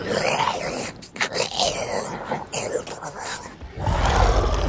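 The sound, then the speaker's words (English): A man's voice, recorded in a dark studio, imitates a growling, snarling dragon for a scene where the hero Hiccup confronts dragons in a cave: raspy, guttural growls and breathy snarls run continuously, then swell into a deeper, louder rumbling roar at the end. “When I growl, I go into some dark studio where nobody can see me making a fool of myself, and I make sounds like...”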